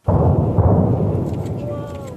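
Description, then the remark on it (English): A heavy demolition blast erupts suddenly at the Northern Power Station in Port Augusta, then rolls into a long, deep rumbling roar as the main part of the station comes down, slowly fading while faint voices rise near the end. “A countdown, some flashes, then the main part of the Northern Power Station at Port Augusta came down, falling silently at first, the sound taking a few seconds to reach the edge of the city.”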